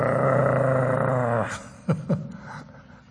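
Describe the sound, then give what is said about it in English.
A voice imitates a dog's growl, as a dog gnawing an old dried-up bone growled when someone reached to take the bone: a sustained, rumbling snarl for over a second, then two short, sharp guttural bursts. It is fairly loud, with no other talking. “He growled at me, and I reached out.”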